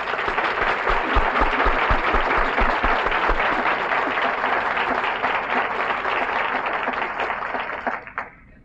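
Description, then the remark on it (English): A crowd applauds steadily for a university's Board of Regents, a dense wash of many hands clapping at a loud, even level for about eight seconds before it quickly dies away. “And I think your Board of Regents merits a round of applause for their great work in bringing this university into being.”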